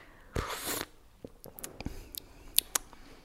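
A loud, airy slurp of tea, demonstrating how to draw air through the tea when tasting it, lasting about half a second, followed by a scattering of small, sharp clicks and taps. No one speaks.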